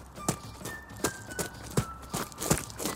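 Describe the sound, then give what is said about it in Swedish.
Running footsteps thud at a steady, fairly even pace toward a climbing frame, each impact sharp, with a faint high tone lingering in the background and no voices. “Man ser faktiskt ända till stora vägen. Jag springer dit.”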